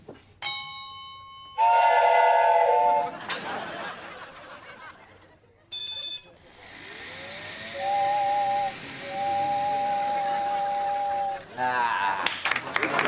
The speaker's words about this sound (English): Okay, can you guys make one of these trains move? Can I at least get that much excitement tonight? Train number one or number two?